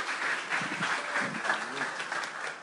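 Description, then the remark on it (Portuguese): A crowd at an event applauds steadily, many hands clapping in a dense, continuous wash that stays fairly even in loudness, with faint voices murmuring underneath. “Uma salva de palmas ao Léo, que ele merece.”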